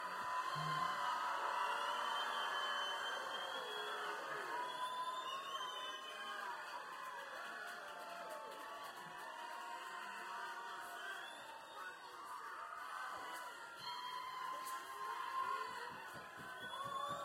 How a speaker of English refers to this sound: I don't want to have to hit any of these mute buttons on here, so I want you all to scream so loud they'll be able to hear us 5 states away, and maybe you'll get them to come back out. Can you do that?